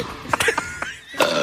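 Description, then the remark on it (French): A few short, croaky burps come in quick succession, fairly loud, with brief gaps between them and no talking. “Comment, moi, j'ai inventé la possibilité de roter en même temps que faire mon service au tennis.”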